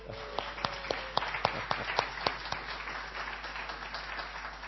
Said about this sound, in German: Und ich bin so dankbar, dass wir so tolle Unterstützung haben. Wollen wir dem Lobpreisteam einen kleinen Applaus geben?